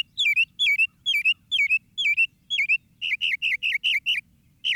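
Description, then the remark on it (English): A mockingbird sings alone in the moonlight: six evenly spaced, bright chirping phrases, then a quicker run of similar sharp notes near the end. “A mockingbird can sound like anything.”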